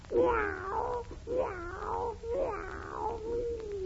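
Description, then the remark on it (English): A voice imitates a cat, giving three drawn-out, whiny meows in a steady rhythm, each rising and falling in pitch, fairly loud with no other sounds around. “Meow, meow, meow. When do I stop saying meow?”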